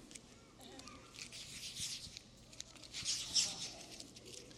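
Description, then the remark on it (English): A $50 paper banknote is crumpled in sweaty hands, giving a steady stream of dry, crinkly rustles that swell into louder crackling bursts near the end. “Now, it's crumpled. Now it's dirty. It's got my sweaty hands on it.”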